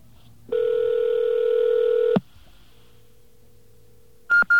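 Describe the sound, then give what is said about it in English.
A loud, steady telephone dial tone holds for about two seconds and cuts off, followed by a quiet line hum, then two or three short, sharp electronic beeps in quick succession as a pager is dialed, the beeps signalling to enter something on a touch-tone phone. “Okay, those three beeps mean it's time for you to enter something in a touch-tone phone.”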